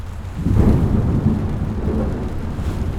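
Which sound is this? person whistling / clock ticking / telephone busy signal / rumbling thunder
rumbling thunder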